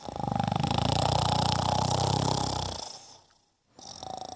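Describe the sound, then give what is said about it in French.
A loud, rumbling snore drags on for nearly three seconds, deep and rattling, then breaks off into a brief silence before the next snore begins. No voices. “Comme il n'en pouvait plus de fatigue, il s'endormit très vite et vint à ronfler effroyablement.”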